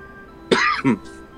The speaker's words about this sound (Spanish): No, y la tos.